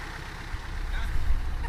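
A truck loaded with bicycles idles with a steady, low rumble that holds throughout, growing slightly louder toward the end, with faint background murmur around it.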